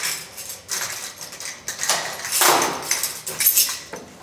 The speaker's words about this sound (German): Die Tür ist sehr gut verschlossen. So, und jetzt kommen wir durch.